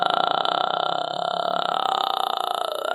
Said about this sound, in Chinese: 直接单发气泡音即可按摩声带。